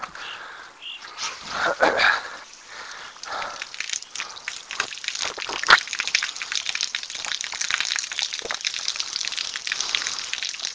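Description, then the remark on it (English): Water gushes and splashes for several seconds as someone gets a drink of water, a steady rushing pour broken by small clinks and drips, as if a glass or bottle is being filled, with no one talking. “We'll get me some water.”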